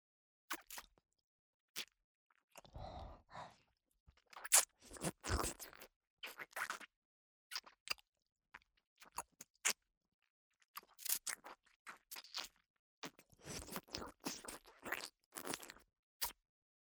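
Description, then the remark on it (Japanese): Wet, smacking sounds of licking a penis come in irregular bursts, some short and clicky, others longer and slurping, with brief silent gaps between them and no talking. “何度も繰り返し、くすぐるように、ピチャピチャと濡れた音に、快感の波がどんどん押し寄せてくる。”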